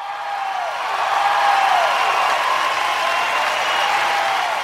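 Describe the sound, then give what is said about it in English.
A burst of crowd applause plays as a sound effect cue for the platform's moderators, a dense, steady wash of clapping lasting several seconds, with faint falling whistle-like tones threaded through it and no talking. “Paul, can we get an applause cue for our mods?”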